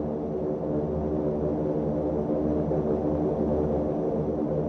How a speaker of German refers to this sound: Eine russische Antonov der UNO überquert die Waffenstillstandslinie zwischen Marokko und der Sahara-Republik.